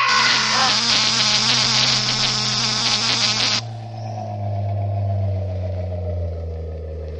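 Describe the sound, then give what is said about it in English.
A loud, harsh electric generator buzz, as a man who tripped into it is electrocuted, with dense crackling overtones runs for about three and a half seconds, then abruptly cuts to a lower, steadier hum that drones on and slowly sags in pitch. “George, the generator.”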